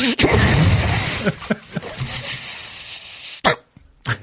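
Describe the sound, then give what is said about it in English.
A hissing spray of aerosol microphone sanitizer, a sustained burst followed by a few short puffs and clicks, with some faint voices in the background. “Hey, I got mic spray, actually.”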